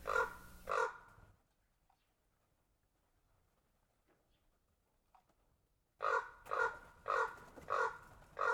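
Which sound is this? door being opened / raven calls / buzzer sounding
raven calls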